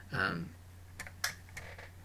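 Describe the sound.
A handful of sharp, irregular keystrokes clatter on a computer keyboard, fairly quiet, following a brief voiced sound at the start over a low steady hum.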